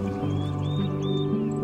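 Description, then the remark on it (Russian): A few faint, high bird chirps rise over a steady, humming tonal background, the sound of a forest awakening as the rain stops on a summer night, a calm ambience with birdsong rather than anything loud. “Появились звуки пробудившегося леса.”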